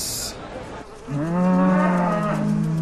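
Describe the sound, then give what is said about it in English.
A dairy cow lets out one long, loud moo, rising and then holding steady for a couple of seconds after a brief rustle of background noise. No one speaks. “A good dairy cow should have like 4.”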